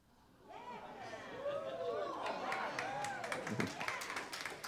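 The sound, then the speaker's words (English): An audience breaks into scattered clapping that builds into steady applause, with murmuring voices and a few raised exclamations mixed in throughout. “I hope for everyone who clapped means you're praying.”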